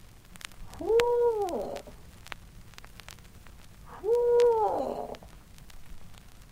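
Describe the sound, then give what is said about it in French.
Two drawn-out owl hoot calls, made as the third call in a sequence to attract a male owl, each a rising-then-falling wavering tone lasting under a second, separated by a pause of about three seconds, clear against a quiet background. “Et cette fois, ce sera l'appel numéro 3, ou le cri du hibou.”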